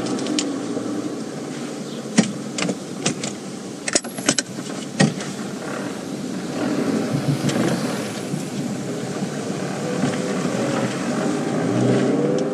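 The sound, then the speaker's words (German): A car drives along a bicycle street in Hamburg with a steady rumble of engine and road noise, scattered clicks and rattles early on, then the hum swells slightly as it slows and brakes. “Warum bremst du denn hier an der Fahrradstraße?”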